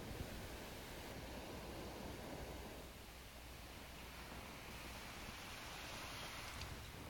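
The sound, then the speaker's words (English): Steady, hissing rush of ocean surf rolling in and crashing against sand, a dense continuous roar with a slight ebb partway through, moderately loud, with no voices. “Waves roll, crash against the sand, splashing up ever closer to my toes.”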